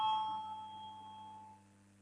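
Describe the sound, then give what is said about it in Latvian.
A parliamentary voting bell sounds as a steady electronic ringing tone, sustained for about a second and a half before fading slightly, heard alone over a low room hum, calling a vote on proposal 19 by Defence Minister Pabriks. “Lūdzu, zvanu balsosim par 19.”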